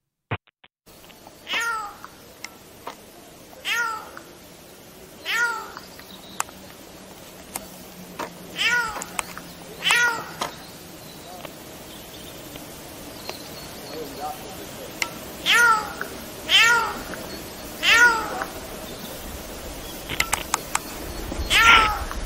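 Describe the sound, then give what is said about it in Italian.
A Eurasian jay imitates a cat, giving a series of about a dozen drawn-out, mewing calls at irregular intervals, clear over faint background hiss. “Ma ecco, ad esempio, ascoltate un po', è sempre la signora ghiandaia quella che sta parlando,”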